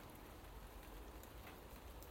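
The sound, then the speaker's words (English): Soft, steady, very mild rain falls gently straight down, a continuous even patter of drops with no pauses, quiet, with no voices or other sounds over it. It has been raining since about 8 p.m. “It's raining.”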